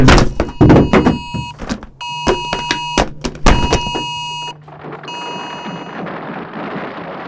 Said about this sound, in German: Plötzlich bebt die Erde, die Halle wackelt, Kisten stürzen und ein lauter Alarm ist zu hören.